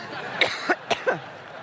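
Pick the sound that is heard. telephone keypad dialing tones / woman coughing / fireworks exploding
woman coughing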